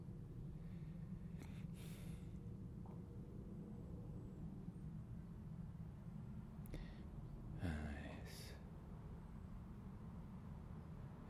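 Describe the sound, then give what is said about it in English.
A steady low rumble of aeroplanes and cars fills the background on a peaceful Sunday morning, 25 August 2013, with a brief breathy sigh and a couple of soft spoken words near the middle. “So beautifully peaceful this morning. And I'm calling this peaceful aeroplanes and cars.”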